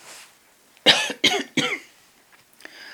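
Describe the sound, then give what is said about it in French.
Three loud coughs from a woman in quick succession, each a sharp burst with a raspy tail, followed by quiet breathing and small rustles. “Désolée, je tousse.”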